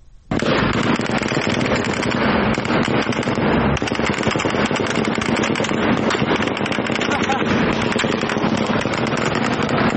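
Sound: gunfire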